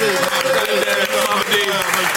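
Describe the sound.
A burst of audience applause with scattered cheers and whoops for the speaker's mother, steady and loud throughout the short stretch, voices rising over the dense clapping.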